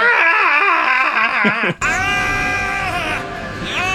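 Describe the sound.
A person loudly imitates a bald man screaming in a chair: two long, strained, wavering wails, separated by a brief break, with the second stretching on to the end.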